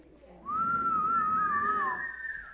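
A person whistles a single sustained, wavering tone that gently rises in pitch toward the end, clear, lasting about two seconds over a low background murmur.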